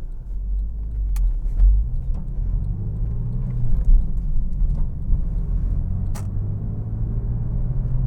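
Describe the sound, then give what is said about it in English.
A car drives along in thick rush-hour traffic, about 70 pounds lighter at the front end, with a steady, deep road rumble from inside the cabin, broken by a few sharp clicks and rattles. No one speaks. “We're out in the thick of the rush hour traffic, so if I sound a little frustrated, it's because of all the traffic.”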